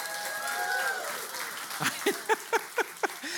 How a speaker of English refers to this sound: Come on, hand clap me out.